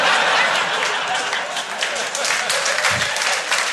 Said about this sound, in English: Honestly, wasn't expecting an applause break.